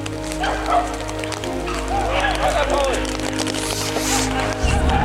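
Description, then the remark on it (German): Hunting dogs bark and yelp in an excited, overlapping chorus during a hunt as they close in on a wounded game animal, against a steady low rumble and some faint voices in the background. “Die fangen die Hunde gleich wieder.”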